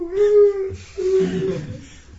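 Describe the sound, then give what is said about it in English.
A person's voice imitates a whimpering dog: two drawn-out, high nasal whines, the second wavering and breaking off, moderately loud with no words spoken. “Like a dog and kicked out of the house.”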